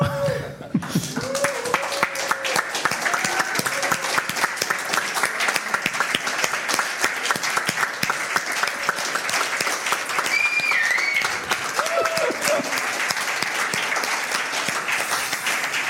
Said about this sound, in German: Irgendwie war es so extrem still nach diesem Slide jetzt hier. Also ich hätte mir jetzt Applaus, Jubel, was auch immer.